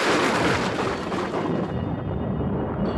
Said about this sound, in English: Thunder crashed outside the house, and the Otises heard a dreadful cry.